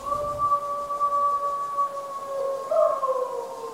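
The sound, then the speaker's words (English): Several voices howl together in long, sustained, wavering tones at a steady loudness, people imitating wolves in the Barber neighborhood of Chico, California, with a few dogs seemingly joining the chorus. Two overlapping pitches hold throughout, swelling slightly near the end. “And those definitely aren't coyotes or wolves that you're hearing. Those are people, and well, maybe a few dogs joining in.”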